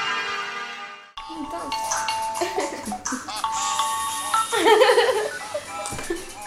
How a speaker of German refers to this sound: Mit Handys lässt sich gut Musik machen, meistens hat man ja mehr als nur einen Sound drauf und im Vorfeld wird oft eine kleine Partitur erstellt, das heißt man hört sich vorher die Sounds an, die drauf sind, die Klingeltöne